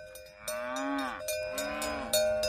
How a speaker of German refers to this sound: Eine Herde Kühe liegt entspannt auf einer Almweide.